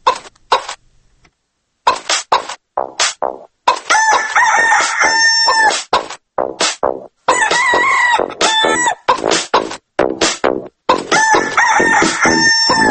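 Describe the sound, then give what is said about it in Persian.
Hens cluck in short, loud bursts while laying eggs as a rooster crows in long, drawn-out calls, overlapping in a busy farmyard chorus with no talking. “دارن تخم میذارن، خسته نباشین خانم مرغه.”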